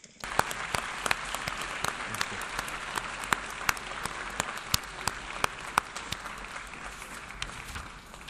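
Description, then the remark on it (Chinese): Sustained applause from a large audience at a United Nations General Assembly meeting, honouring a staff member who worked at the UN for 36 years. A dense, steady wash of many hands clapping, with a few sharper individual claps standing out, continues evenly for several seconds without voices. “我请大会向他表示热烈的鼓掌，赞赏他所做的工作，祝他好运。”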